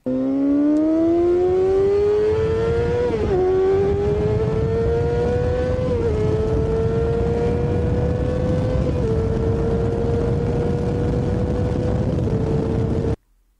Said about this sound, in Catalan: Vale, difícil endevinar la marca. Deixeu-me que us digui quin tipus de moto és i deixeu-me que us doni 3 o 4 motos, perquè és molt difícil. Això d'aquí és una moto de 600 o de 1.000 cilindrades, és una moto d'una superesport